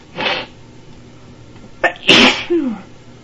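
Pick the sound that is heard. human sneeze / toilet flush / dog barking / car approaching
human sneeze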